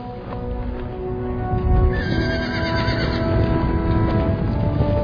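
A herd of horses thunders past in a cavalry charge of armour-plated Gondorians on the Pelennor Fields, with heavy, continuous hoofbeats, and a loud whinny rises over the galloping din. Dense, with no voices.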